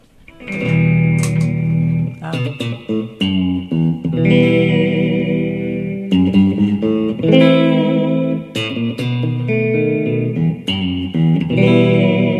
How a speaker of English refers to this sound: Okay, so we'll start off with a reverb.